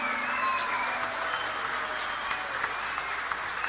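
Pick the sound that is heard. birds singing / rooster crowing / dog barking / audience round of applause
audience round of applause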